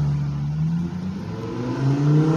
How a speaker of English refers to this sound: Can you guys hear it? I'm assuming it's a Lambo or some kind of Lambo-esque car. It's like a flat white, and it's got like red and green little, almost like a detail inside the door. That car was Italian as fuck, man.